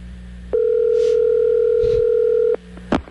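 A loud, steady telephone dial tone hums for about two seconds while placing a call to Cowboys head coach Jason Garrett, then stops abruptly, followed by a quiet pause and a short sharp click like a handset being handled.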